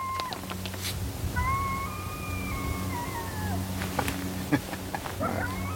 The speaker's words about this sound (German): Ein Kojote heult.